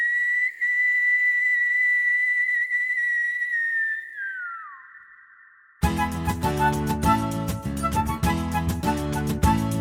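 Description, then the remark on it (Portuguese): A long, eerie high whistle echoes through a village as night is about to fall, holding one steady tone for several seconds, then sliding downward and thinning out before loud rhythmic music abruptly takes over. “E muito tempo se passou, até que, quando estava prestes a anoitecer, um assobio aterrorizante ecoou por todo o povoado.”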